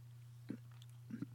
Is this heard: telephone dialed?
no